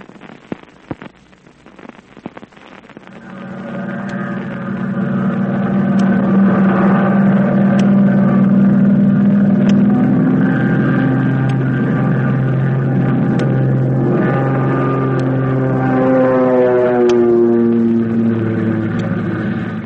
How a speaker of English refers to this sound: the American plane with Flip Corkin at the controls is streaking through the sky toward Yokohama